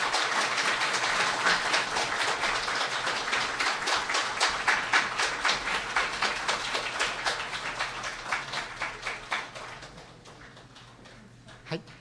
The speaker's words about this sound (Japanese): 今一度、盛大な拍手でお送りください。